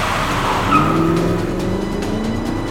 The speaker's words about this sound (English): I kept my foot on the gas as we slid across the wet concrete like a boat on water.